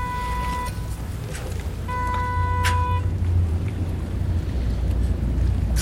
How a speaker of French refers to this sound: Il y a un peu de vent. Oui, on aurait dû prendre une parapluie.